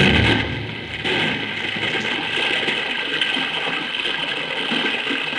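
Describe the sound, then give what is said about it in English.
Flood water rushes and pours steadily through a gap, a loud continuous gushing roar with a hissing, churning texture that never lets up. “Madre mía, look at the water pour through that gap.”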